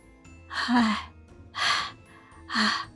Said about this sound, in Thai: หยุดอธิบายด้วยอาการหอบหายใจเพราะความเหน็ดเหนื่อยจากการปีนป่ายมาหลายชั่วโมง